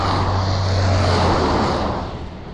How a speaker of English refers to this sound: Still quite a busy road, plenty of trucks. The booming, the mineral boom in this area is being fed by lots of trucks going up to Gladstone and Mackay.